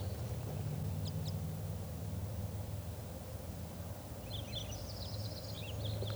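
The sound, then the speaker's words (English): A flock of wild birds, two pairs with bright red males and two females, gives short, high chirping calls: a quick pair early on, then a cluster of repeated notes toward the end, all partly buried under a steady, loud background hiss and low hum. “So recording, I think this flock is composed of two pair, one more bright red male than the other, and two females.”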